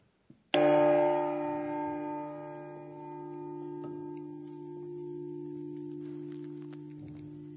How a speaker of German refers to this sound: Und auf ihn weist die große Glocke, auf Gott.